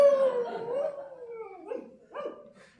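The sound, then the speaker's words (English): A man imitates a dog, voicing Tom of Bedlam barking naked in the rain outside a hovel: a long, drawn-out howl that slides downward, then two shorter yelping barks, fairly loud with no talking. “When we arrived at the hovel, Tom of Bedlam stood outside, naked in the rain, barking.”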